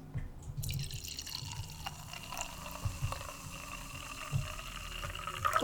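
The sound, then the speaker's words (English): A fizzy drink with bubbles is poured steadily into a glass as a top-up, with a soft bubbling crackle and little drips running for several seconds. No one speaks. “Top up? Oh, yes, beach. Very good. Oh, yeah, some more bubbles.”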